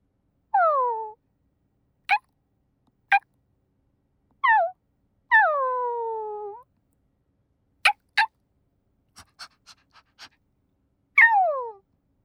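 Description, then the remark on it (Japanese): A voice imitates a puppy, alternating drawn-out falling whimpers with short, sharp yips, then a few soft quick yaps before a final whine, all fairly loud with no talking. “はい、子犬もおしまい。”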